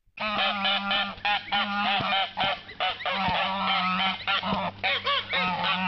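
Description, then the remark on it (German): A Steinbacher fighting goose honks loudly at the farm of the Erfurt zoo park, a near-continuous run of harsh, nasal calls with brief gaps, some overlapping as if several birds join in. No one speaks. “Wir haben auf dem Bauernhof für euch trotzdem geschafft, ein paar Töne von dieser Gans aufzunehmen.”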